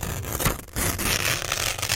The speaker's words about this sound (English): Tearing paper one. Tearing paper rather than scrunching up.